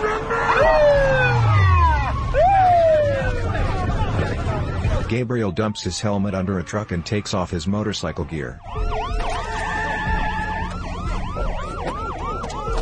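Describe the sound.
Police sirens wail loudly, their rising and falling tones sweeping for a few seconds before a man begins speaking over the continuing commotion.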